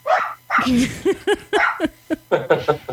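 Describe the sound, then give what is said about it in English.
Several schnauzers bark in quick, overlapping bursts, a rapid run of sharp yaps filling about three seconds. “They were angered at your butchering of the words. So your schnauzers have fine, delicate taste in words?”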